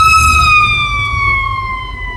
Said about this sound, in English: And here comes a fire truck. Sorry, you guys.